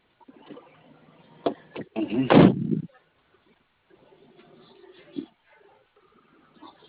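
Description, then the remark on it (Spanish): Over a muffled phone line, two sharp clicks lead into a louder, clunky burst, like a car door unlatching and swinging open, followed later by one fainter click amid low background murmur. “Abro otra puerta.”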